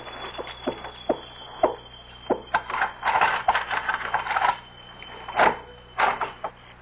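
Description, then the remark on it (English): Keys jingle and rattle, with a run of irregular clicks and scrapes as they fumble in a locked door's lock, busiest midway, then a few final clacks. No one speaks. “Oh, locked. Keys.”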